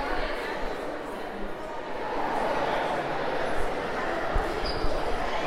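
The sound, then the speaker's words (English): A steady murmur of many teenagers chattering at once, echoing through the Signers' Hall of a museum, where they pose for pictures with statues, with occasional footsteps and thumps mixed into the busy background. “At the moment, the Signer's Hall is filled with a bunch of teenagers who are posing for pictures with the various statues”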